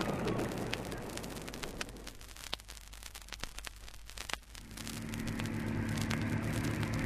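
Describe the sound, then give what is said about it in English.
An aircraft engine is started up by Bertie: a few seconds of crackling, sputtering noise with sharp clicks, then a steady low droning hum takes hold and keeps running. No one speaks. “Bertie's starting up. I know.”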